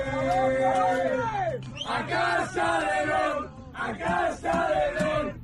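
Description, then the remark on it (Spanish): Spain's basketball team, World Cup gold winners, sings and chants together loudly in unison, a rowdy, rhythmic team song with sustained harmonized notes and brief pauses between phrases, on the bus taking them to the airport in China. “Así de animados cantaban en el autobús que les llevaba de camino al aeropuerto de China.”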